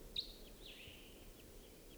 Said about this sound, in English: Decoys just got excited. I think a wild bird is around somewhere. Stop. Recording, there was a wild bird here.